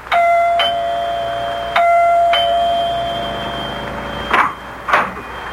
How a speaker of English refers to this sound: It is the next morning, and Dr. Lem Regan rings the doorbell of Clyde Wilkins' house.